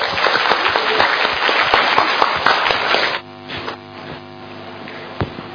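An audience at a learning session bursts into loud, dense applause for about three seconds for the next presenter, then it drops off abruptly to a few scattered claps over a soft, steady tonal hum.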